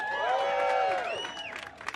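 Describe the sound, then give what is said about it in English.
A studio audience lets out a loud burst of whooping and cheering at news of a strike by TV, film and theatrical production workers, swelling and then tapering off, with scattered claps breaking through toward the end. “I heard that cheer.”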